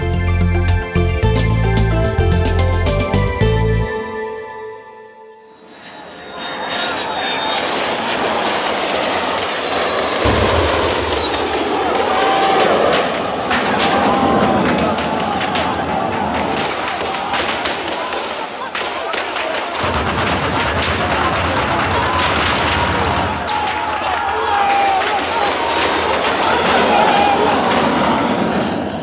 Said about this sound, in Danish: Lyden af maskinpistoler, angribende fly og artilleri har været en del af hverdagen for tusindvis af libyere under den voldsomme opstand.